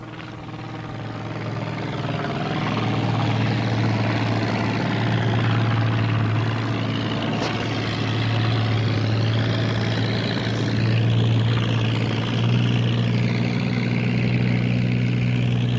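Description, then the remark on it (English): A Pietenpol Air Camper small sport airplane with a Corvair engine drones steadily and fairly loud, a low buzzing propeller hum that holds constant for the whole stretch, with no voices. “All right, this is a Pete and Pole air camper, little sport airplane.”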